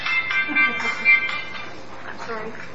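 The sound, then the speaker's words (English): A mobile phone rings with a short run of bright, high electronic tones in the first second, then the ring fades under a low background murmur of people talking. “That's a reminder for everyone to turn off their phone.”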